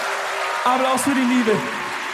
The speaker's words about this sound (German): Applaus für den Strauß. Applaus für die Liebe.